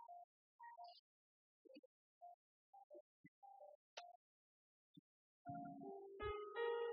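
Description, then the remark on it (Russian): Short electronic telephone tones beep in an irregular sequence of varying pitches, followed by a louder, sustained multi-pitched line tone as the call connects. No voices are present. “Поехали, телефонный звонок.”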